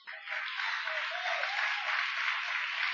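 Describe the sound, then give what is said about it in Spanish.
A church audience applauds steadily for about three seconds, a dense wash of many hands clapping at an even, sustained loudness with no voices on top. “I'm not looking for hand claps.”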